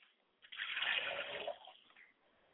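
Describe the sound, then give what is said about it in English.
Liquid poured out as a libation to the south, in a single steady stream for about a second, a broad splashing rush that swells, then trails off into a few faint drips. No voices. “And finally, I pour libations to the south, and I say Ashe.”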